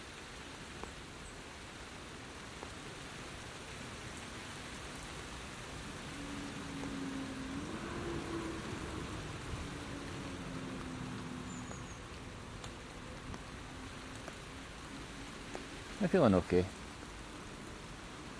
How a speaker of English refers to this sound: This hat's brilliant. Really does keep the rain off your head.